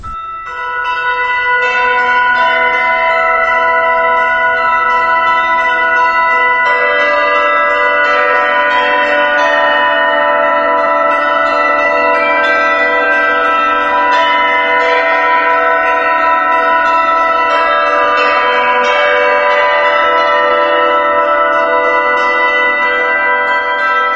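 Church bells ring steadily for the whole stretch, several bells overlapping in a rich, sustained wash of chiming tones, loud with no voices.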